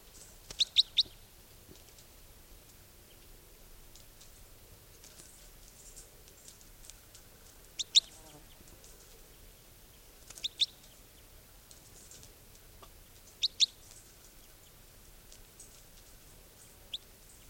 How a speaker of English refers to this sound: Okay, this is 464, the type 4 bird.